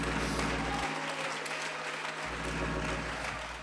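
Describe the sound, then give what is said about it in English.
A church audience claps continuously to give God praise, a dense wash of many hands applauding at once with steady loudness and no clear individual rhythm, filling the whole clip without speech. “If you're glad to be a part of the church, clap your hands, lift your voice, give God some praise.”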